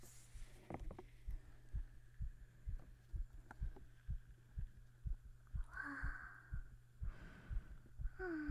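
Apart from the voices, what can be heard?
fast heartbeat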